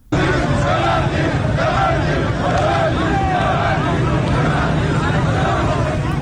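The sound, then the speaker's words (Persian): A large crowd of shopkeepers and people in the street at a Sunday noon bazaar protest gathering, loud, with many voices overlapping into a steady roar; raised voices rise and fall together chanting the slogan 'bebandid, bebandid' ('close, close'), with no clear individual speech. “ویدیوهای منتشر شده از این تجمع در ظهر روز یکشنبه در شبکه‌های اجتماعی نشان می‌دهد که گروهی از کسبه و مردم در خیابان با سر دادن شعار ببندید ببندید از صاحبان کسب و کارها و مغازه‌ها خواستند که به تجمع اعتراضی آنان بپیوندند.”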